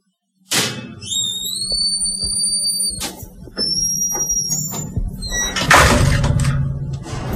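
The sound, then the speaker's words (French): A heavy metal prison door grinds open with a loud, sustained high-pitched squeal, followed by clanks and a final rattling scrape as it slides, opened for people waiting in a prison corridor. “On attend qu'on nous ouvre la porte, là.”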